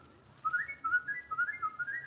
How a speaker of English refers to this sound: Oh, now, wait a minute. It's very pretty whistling, McGee, but let's not lose our heads.